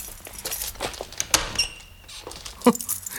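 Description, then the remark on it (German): The door of a dark apartment is eased open quietly, with faint latch clicks and small metallic ticks, a sharp click midway, and a soft thump near the end. No one speaks. “Die Tür ist ja echt ein Kinderspiel.”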